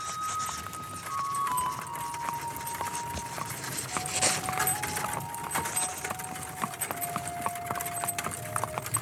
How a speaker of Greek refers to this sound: Ήταν ακριβώς τη στιγμή που οι οδοκαθαριστές επιστρέφουν με τα κάρα τους όπου είναι ζεμένα γέρικα άσπρα άλογα.